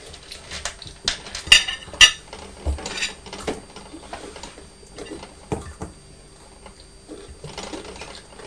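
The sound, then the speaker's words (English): Pots rattle and clink on a table in irregular bursts, a few sharp knocks standing out early on before settling into quieter, scattered clattering, with no voices. “Pots are rattling on the table, aren't they?”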